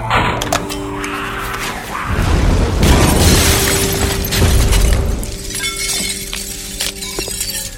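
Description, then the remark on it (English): A Mark 56 hand grenade explosion: a loud, rumbling blast that swells for a few seconds, with crackling, shattering debris over it before it settles into a lingering low roar. “Mark 56 hand grenade.”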